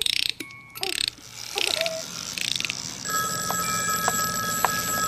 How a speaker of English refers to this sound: What do you want? You want some music while you get changed? Hey, you want a little music from your music box? Here we go.